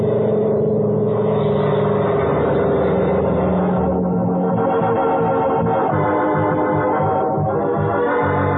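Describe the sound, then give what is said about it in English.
Both engines of an airplane are started at once, roaring to life and holding a loud, steady drone, with a rhythmic throbbing pulse emerging toward the end. No voices are heard. “We got to start both engines at once.”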